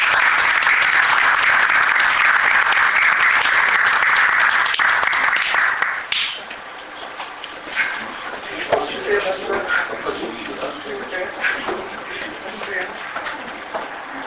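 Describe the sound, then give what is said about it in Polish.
Dense applause from an audience at a municipal council session, honouring helpers of local community events, fills the first six seconds, then thins into scattered claps and shuffling, with some faint talk underneath. “Proszę o brawa.”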